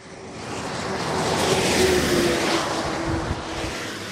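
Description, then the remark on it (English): A car slows to 30 miles an hour as it enters the little village of Perrois-les-Gombrys, north of Paris, past a speed camera; its engine hums and tyres roar, the broad whoosh swelling and then gently fading, with no voices. “Cars slowing to 30 miles an hour as they enter the little village of Perrois-les-Gombrys, north of Paris.”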